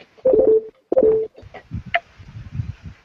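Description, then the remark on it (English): Two loud Facebook notification beeps sound in quick succession, each a short steady mid-pitched tone, followed by a stretch of low, muffled rumbling and scattered clicks. “What is constantly beeping like that?”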